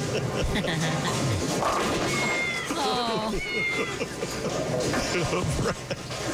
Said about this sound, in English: Did we just bowl? Who put kittens in the bowling pins?